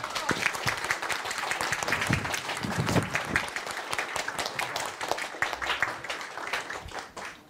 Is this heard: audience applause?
yes